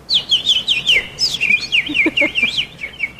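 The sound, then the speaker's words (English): Kendall Jenner imitates birds, whistling a rapid run of bird-like chirps, high and warbling with quick upward and downward slides, clear with no talking. “She can make bird noises.”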